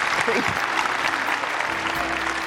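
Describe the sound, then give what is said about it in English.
Loud, dense audience applause fills the whole stretch, a steady wash of many hands clapping at once with a few voices faintly mixed in underneath. “Listen to the applause.”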